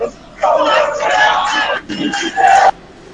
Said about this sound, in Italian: Stiamo sentendo i tifosi della Juve in sottofondo. Noi vogliamo 11 leoni.